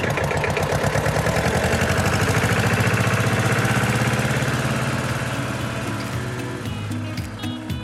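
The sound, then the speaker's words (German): A tractor engine chugs loudly with a steady, rapid knock. Its pitch and pace shift slightly as the driver puts it in gear and slowly releases the clutch and it begins pulling away, then it eases a little toward the end. “mit dem Trecker, der ist ja fast schneller, als du fliegen kannst”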